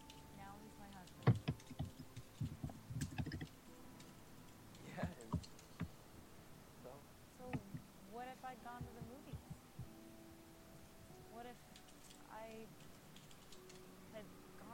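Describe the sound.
Irregular bursts of quick clicking keystrokes on a computer keyboard, with brief pauses between runs and some voice sounds mixed in at times.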